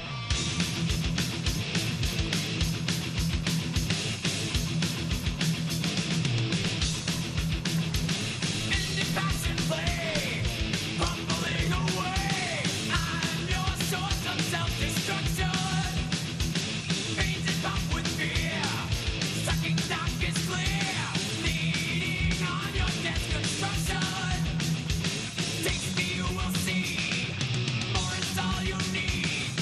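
Loud, dense heavy metal song with roaring distorted electric guitars and pounding drums, driving at a steady full intensity for the whole stretch, with no one talking over it.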